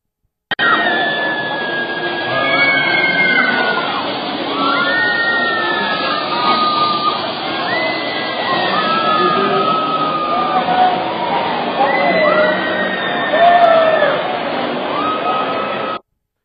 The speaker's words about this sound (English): The reason why she's kind of turned around is the guy who said, okay, go, took her legs, camera one, took her legs and went, whoo. So she spun. And that's why she screamed, I believe.